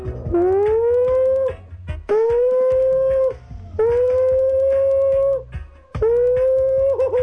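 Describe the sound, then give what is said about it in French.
A voice imitates an anti-atomic air-raid siren with four long wailing howls, each swelling up in pitch, holding steady, then dropping off with short gaps between them, loud and with no other talking. “Vous imitez la sirène anti-atomique? Oui, c'est ça.”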